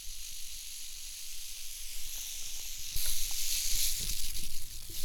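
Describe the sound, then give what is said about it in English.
A rattlesnake's tail rattles in a continuous dry, hissing buzz, growing louder and more intense partway through, with no voices. “It was only then that we heard the sound that can send chills up even the most daring among us. There's a rattle.”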